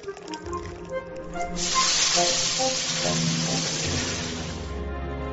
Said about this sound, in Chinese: 油锅煸炒姜葱，放入豆豉与豆瓣酱，把整锅料倒入牛骨汤，便是牛肉面的汤头。